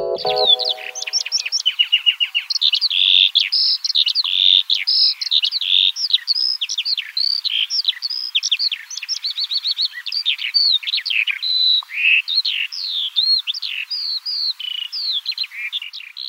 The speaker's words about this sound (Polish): Z ptasiego na polski tłumaczy ornitolog Paweł Pstrokoński.